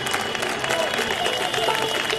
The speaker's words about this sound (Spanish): Fue un día así como así cuando nos encerraron. Salíamos a las 8 en punto a aplaudir todos los días.